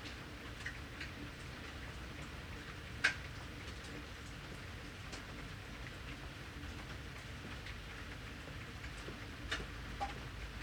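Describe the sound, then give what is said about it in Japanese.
Steady rain falls with a continuous soft hiss, scattered drops ticking against a surface now and then, one sharper tap standing out. No voices. “雨止んだら首輪買いに行こうな。”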